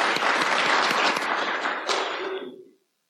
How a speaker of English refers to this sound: Thank you. Thank you. And let's have another round of applause for the other creators and readers.